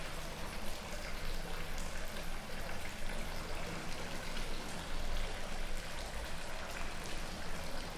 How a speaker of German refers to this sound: Und es war ein sehr geheimnisvolles Moment, dass ein Brunnen auf einer kleinen Insel laufen kann. Und das ist, darum ist der Brunnen mit den drei Wasserrohren wird heute noch von Leuten als Heilbrunnen angesehen.